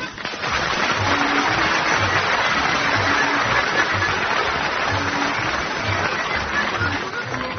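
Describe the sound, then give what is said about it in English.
An audience at the start of the radio comedy The Navy Lark applauds in a dense, steady wash of clapping that holds at full loudness for several seconds, with no voices breaking through. “Thank you very much indeed for all that applause.”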